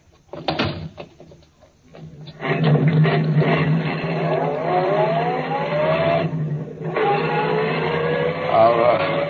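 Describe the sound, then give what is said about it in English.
A couple of clunks like a car door shutting, then an engine turns over and roars to life, revving up steadily as a policeman drives away with a man he is taking in, the car pulling away and accelerating, loud. “Okay, Furman, get in the car. I'll drive, Scott. In you go.”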